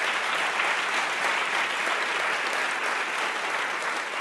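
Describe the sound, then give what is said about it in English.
An audience at a debate claps steadily for about four seconds for the debaters, a dense, even wash of many hands with no voices breaking through. “So I just want to invite a round of applause to all of them for the way that they did this.”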